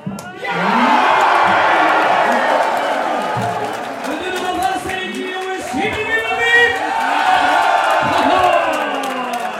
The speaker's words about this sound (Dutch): Nou, die was bijna niet te verstaan door al het geschreeuw op de achtergrond, omdat mensen daar helemaal uit hun plaat gingen van euforie.